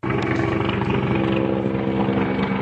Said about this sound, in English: Military helicopters fly over the troubled eastern city of Slavyansk as part of what Ukraine's government has called an anti-terrorist operation.